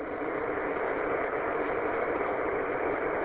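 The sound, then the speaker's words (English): A car engine, just started during a commute to work, idles with a steady, unbroken hum, sounding muffled, holding an even level for a few seconds with no voices. “Yeah, I didn't hear anything that was talked about on the net because I literally just turned the car on and the radio on when you were asking for final check-ins.”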